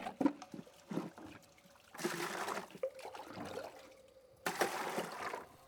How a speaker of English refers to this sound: You're going to pour water into my mouth until I choke now, aren't you?